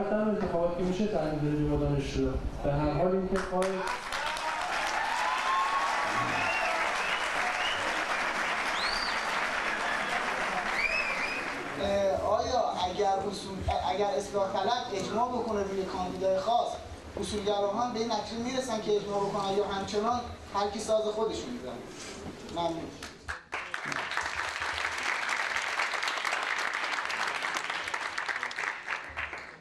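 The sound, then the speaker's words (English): A large crowd of supporters at a presidential election campaign claps and cheers loudly and continuously for about half a minute, with excited voices shouting and chanting over steady, dense applause. “Others seem proud to see jubilant crowds of supporters.”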